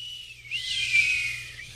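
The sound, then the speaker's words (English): A person whistles one sustained, steady high note for just over a second, breathy, with no talking. “Do meerkats whistle?”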